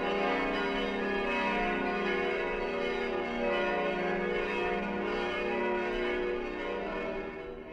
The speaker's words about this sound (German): Die dich in dieses Gotteshaus ruft, die Glocke, spendete das Land Oberösterreich.